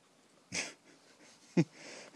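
A dog gives two short, noisy snorts, a breathy wheeze followed about a second later by a sharper, punchier snort, with quiet background between.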